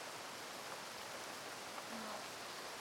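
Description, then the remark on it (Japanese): Steady, soft rain hisses evenly throughout, a continuous wash of fine patter with no voices and no distinct drops standing out, heard at a quiet level. “雨に打たれずに済んだってことだし、多分どこかで雨宿りでもしてるんだと思う。”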